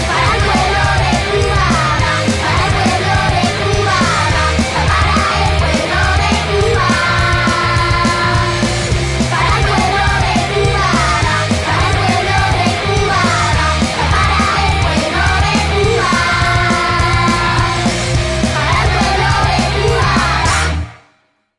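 A loud rock song plays throughout, with driving distorted guitars, steady bass and pounding drums, and shouted vocals over the top before it cuts off abruptly at the end.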